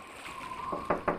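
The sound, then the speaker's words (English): Three quick, evenly spaced knocks on the wooden door of the captain's cabin on a ship, rising out of a low, steady creaking hum. “But the crew was unhappy with their present circumstance of cold, cold, coldness, and one day a complaint came to the captain's door.”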